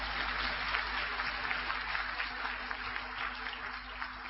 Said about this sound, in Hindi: आदरणीय भाई साहब का हम सभी तालियां बजाकर बहुत बहुत धन्यवाद करेंगे।